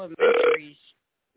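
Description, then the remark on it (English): A short, loud burp rumbles out right after a few spoken words, lasting about half a second before trailing off, with talking resuming at the very end. “Hey, I know that hey, burp.”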